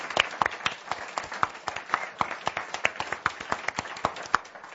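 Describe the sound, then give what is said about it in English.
A crowd applauds steadily, dense overlapping handclaps with sharper individual claps standing out, holding at a moderate level throughout with no voices over it. “I think they deserve an applause.”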